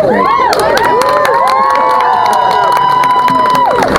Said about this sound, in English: Another round of applause for the Holly Rad's Grannies duo.